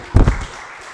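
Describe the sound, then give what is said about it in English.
A short burst of audience clapping, a couple of sharp, loud claps at first that quickly fade into a faint trailing patter, with no talking. “Right, round of applause, round of applause.”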